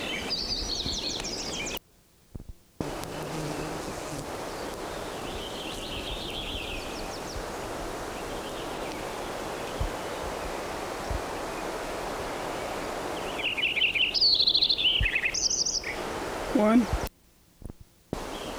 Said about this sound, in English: Lincoln Sparrow number 9.